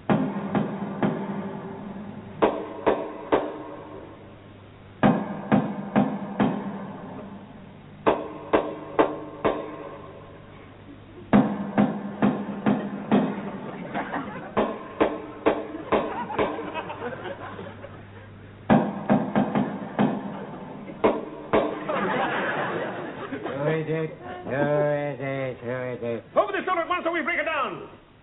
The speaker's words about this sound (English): Ah, this is the house, and I shall now give the secret knock that only he and I know.